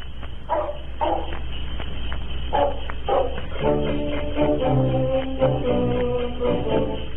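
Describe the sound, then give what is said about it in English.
Sled dogs bark in short bursts, two clusters at the start, then a perky band tune of Eskimo music comes in with the barking woven through, from a band's program sponsored by the Clico Club ginger ale company. No one speaks. “for example, the Clico Club, which is a ginger ale company, they sponsored a program called …, which was a band which played Eskimo music, including barking sled dogs.”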